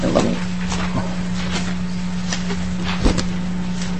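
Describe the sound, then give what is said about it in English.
Paper shuffling as a speaker sorts the pages of a bill during a legislative committee hearing, in a string of soft, crinkly rustles at irregular intervals, with one sharper crackle near the end, all over a steady low electrical hum and no talking. “Chair, I have too much paper here.”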